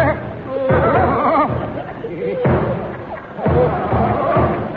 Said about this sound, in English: Look, it's a military gentleman walking up the line banging a drum.